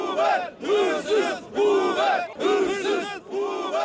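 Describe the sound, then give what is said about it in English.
A large crowd of taxi drivers outside Istanbul's main courthouse chants "Thieving Uber" in unison, loud rhythmic bursts of shouting that rise and fall in about five repeated phrases, many voices blending into a strong, steady cadence. “Hundreds gathered outside Istanbul's main courthouse earlier this month, chanting, "Thieving Uber."”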